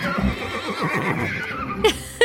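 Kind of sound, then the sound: animal, horses neighing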